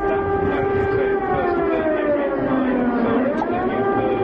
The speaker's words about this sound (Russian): Ровно полдень звуки воздушной тревоги снова напомнили гражданам Сербии весну 1999 года. Сирена звучала память о погибших в результате натовских бомбардировок.